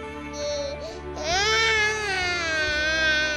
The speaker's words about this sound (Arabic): هالمسكين تعب من كتر ما بكي. حبيبي حبيبي شو يا عمري؟ حياتي روق، الولد جوعان، انتي لازم ترضعي للولد.